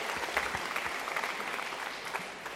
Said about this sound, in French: Oui, on peut les applaudir, je crois. Ils ne sont pas nombreux, mais merci. Merci pour eux.